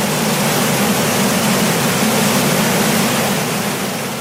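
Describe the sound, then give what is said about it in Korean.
A loud, steady rush of falling water from a great waterfall on the Missouri River, in present-day northern Montana, roars without pause, a dense, constant wash of noise. No voices are heard. “자, 탐사대는 옐로우스톤 강, 머라이어스 강을 지나서 6월 13일에 미조리 강을 가르는 대폭포에 이르렀습니다.”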